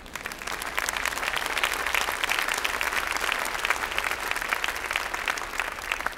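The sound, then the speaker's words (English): A large audience claps enthusiastically, a dense, steady wash of applause that holds at full strength for several seconds before easing slightly at the end. “That's a good place to clap wildly.”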